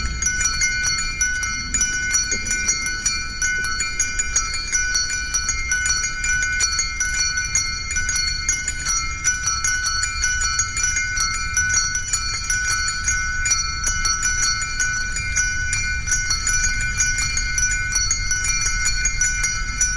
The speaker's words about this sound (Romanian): Această rugăciune a clopotelor de pe discul oriental …